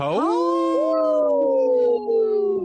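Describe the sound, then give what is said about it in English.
People on the radio show Native Roots Radio Presents imitate wolves with a loud, drawn-out howl as a shout-out to the wolves, swooping upward and then holding a steady pitch for nearly three seconds, with voices overlapping and no speech. “Hey, let's give a big howl.”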